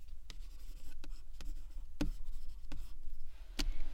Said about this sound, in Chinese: 好了，来， 在这里签个字。 喏，笔给你。 签好之后，你就可以走了。